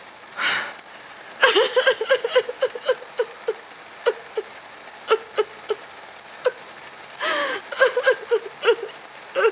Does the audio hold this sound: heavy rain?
yes